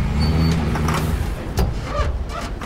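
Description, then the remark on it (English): A small hatchback car drives along a city street at night with a steady low engine rumble and road noise, slowing as it pulls up outside a club with a scarlet red facade, with a few brief clunks and swishes near the end. “Nighttime and Ben drives Michael's small hatchback along a city street and pulls up outside a club with a scarlet red facade.”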